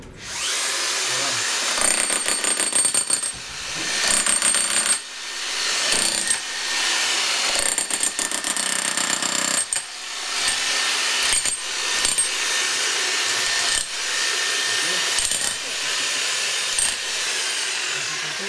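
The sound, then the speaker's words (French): Loud, harsh power-tool hammering: small jackhammers rattling in rapid bursts, breaking up concrete-hard deposits in a sewer to make space, stopping and restarting every few seconds, echoing, with no talking. “Quand il y a des gros trucs de béton en dessous, on est obligé de prendre avec des petits marteaux-pics et de casser ça pour qu'il y ait de vous de l'espace dans l'égout.”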